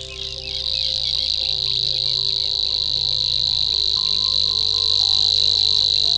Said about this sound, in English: If you are greeted by a concert of grasshopper chirps like this, you have heard a reed warbler, a small bird mysteriously chirping up and down the reed stems.